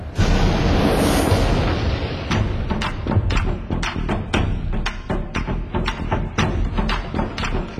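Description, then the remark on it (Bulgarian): Heavy temple gates are thrown open: a deep, loud rumbling boom gives way to a rapid, uneven run of heavy clanking thuds that continue to the end, with no voices. “Какво беше това? А, разтвориха портите на храма.”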